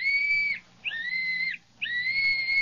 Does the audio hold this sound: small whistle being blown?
yes